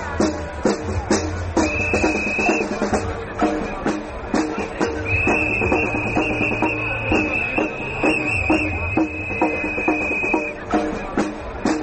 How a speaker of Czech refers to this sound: Pištaljke i Doboši ponovo su na ulicama Beograda. Nakon nekoliko meseci letnje pauze, inicijativa Ne davimo Beograd organizovala je šesti protest na kome se okupilo više hiljada građana.